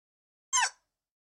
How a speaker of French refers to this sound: Attendez, il y a un dinosaure qui crie de façon super mignonne.